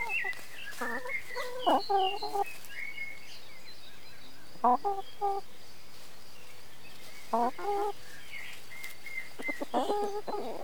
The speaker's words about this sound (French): On avait aussi nos poules avec nous. Enfin, on avait notre coq et notre poule.